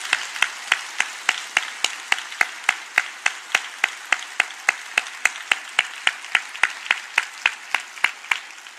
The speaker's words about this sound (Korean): 그리고 곳곳에 앉아있는 우리 다음 세대, 정말 여러분께서 진심을 담아서 격려의 박수를 보내주시면 감사하겠습니다.